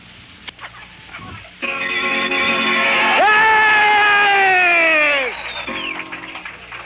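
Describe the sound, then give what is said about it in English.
At a 100 mission party in the officers' club at Korat, after a few seconds of low murmur, a group of pilots answers a bell-rung round of drinks with a loud, sustained cheer: one long drawn-out shout that jumps up in pitch midway, then sags and trails off. “The happy pilot rings the bell announcing a round of drinks for all those present. They answer to show their appreciation.”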